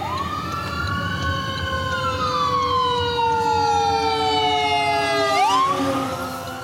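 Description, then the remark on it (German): A loud emergency vehicle siren wails as it approaches from behind a car driving along the US West Coast toward Los Angeles, its pitch sliding slowly up and down over a low engine rumble, with a sharp upward sweep near the end. No one speaks. “Der kommt von hinten. Fahren wir mal rechts beiseite, links beiseite und bremsen mal etwas.”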